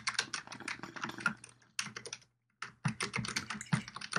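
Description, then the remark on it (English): Rapid clatter of fingers typing on a computer keyboard, with irregular bursts of keystrokes broken by a short pause before the tapping resumes. “Type, I'm typing.”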